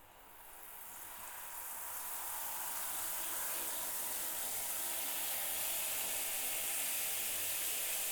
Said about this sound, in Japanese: じゃあまずは髪を濡らそっか。シャワー出すね。